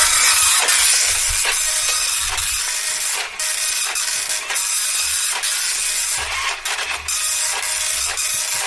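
A dot matrix printer grinds steadily through a slow print job, a harsh, buzzing mechanical rasp broken by brief clicks and pauses as the head shifts, loud and close with no voices.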